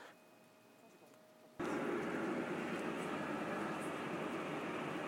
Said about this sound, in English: It's now coming up to about 6:30, and the train is just approaching Basingstoke.